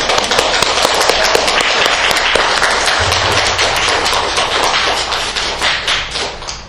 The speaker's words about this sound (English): let's greet her with a nice round of applause.